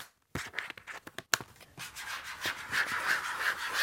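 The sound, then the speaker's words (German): Fingernails scratch and rub against a stiff surface in quick strokes, starting with a few sharp scrapes and settling into a steady, slightly uneven scratching that continues to the end. “Dieses Geräusch entsteht, wenn ich mit meinen Fingernägeln drauf rumkratze.”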